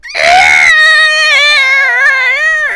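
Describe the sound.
A voice imitates the Godzilla-style roar of an abomination henchman: one loud, sustained, high-pitched screech lasting over two seconds, rising sharply at the start, then wavering and grinding before trailing off.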